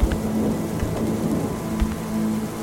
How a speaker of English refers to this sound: I stepped out into the downpour, my flashlight having trouble penetrating the thick sheet of rain.